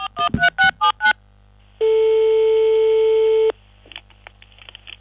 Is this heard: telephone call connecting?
yes